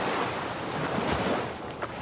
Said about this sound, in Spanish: Estas son las olas del Golfo Pérsico.